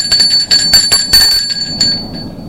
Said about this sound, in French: Ils entendent une sonnerie.